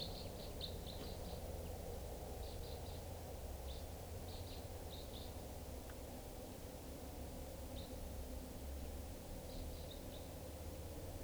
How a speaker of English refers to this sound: Crossbill's coming. Was a type 2, no sign of it now. Step. Another crossbill, 6:57.